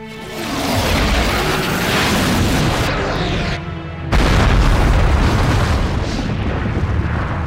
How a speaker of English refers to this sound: Particle cannon! Particle cannon. Aye, sir. Vaporize or rubble, oh, sir. Lady's choice.